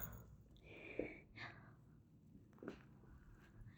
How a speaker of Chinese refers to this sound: 你看一眼，我操，这就开始打呼噜了，你妈的！